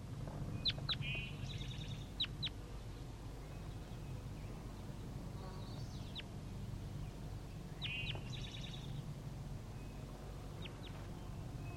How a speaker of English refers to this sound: Start recording the juvenile birds.